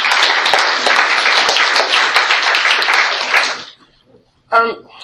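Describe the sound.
A crowd applauds themselves and their colleagues with dense, steady clapping for several seconds before it quickly dies away; a single voice briefly begins speaking once it goes quiet.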